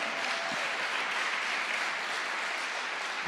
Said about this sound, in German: Komm, wir geben dem Herrn mal einen Applaus. Amen.